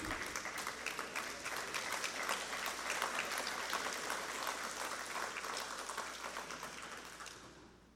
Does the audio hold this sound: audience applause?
yes